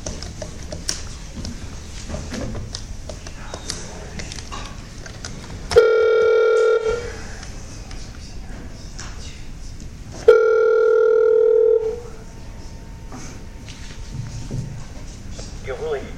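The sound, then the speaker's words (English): A telephone line tone sounds twice, each a steady buzzing burst of about a second, separated by a pause, over faint room noise and low background murmur, as a phone call is placed to the petitioner's counsel during a hearing board meeting. “So I'm going to get him a call right now.”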